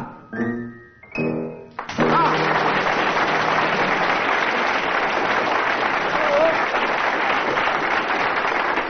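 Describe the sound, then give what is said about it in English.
A brief sung phrase from Old MacDonald Had a Farm at the start gives way to a loud, sustained burst of audience applause for the contestant, dense and steady for the remaining seconds, with a few faint cheers mixed in. “That burst of applause puts … in an unbeatable position, but we'd better go on anyway.”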